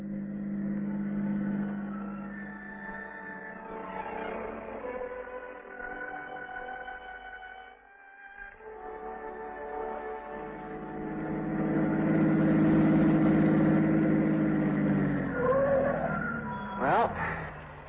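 A car engine drones steadily as it drives, dipping briefly and then swelling louder as it revs, before tires give a short, sharp skid near the end.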